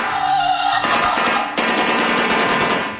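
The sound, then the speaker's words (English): A shoebill stork clatters its bill in a loud, rapid, machine-gun-like rattle that runs steadily for about three seconds, dry and hollow, with no voices. “What was the, did you have, what, was it the shoe bill? Oh, yeah, that was that's the clacking. That was this guy.”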